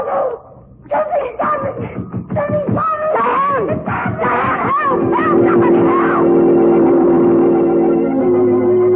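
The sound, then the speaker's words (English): A woman screams in a rapid series of short, high, wavering cries, loud throughout, as she is grabbed and pulled into a passageway. A steady low droning hum builds underneath and carries on alone toward the end. “I heard you call, and Diane screaming”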